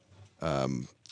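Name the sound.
sneeze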